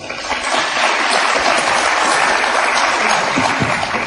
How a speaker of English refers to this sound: Who believes that the herbicide making corn more nutritional is the fiction? Who believes that's the fiction? By applause.